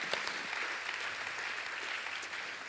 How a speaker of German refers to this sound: Hey, ein Applaus für alle, die dann helfen, ja, so dass die Gemeinde hier dann ja vorwärts geht.